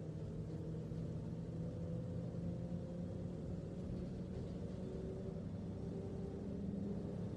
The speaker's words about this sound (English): Please sit down while the bus is moving, ok? Sit down. We're entering a very bumpy area, okay?